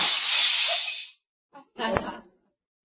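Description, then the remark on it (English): A loud, harsh crash of breaking glass fills the first second, followed by a sharp impact and a brief rattle of shards settling, with no voices. “Be careful of the glass”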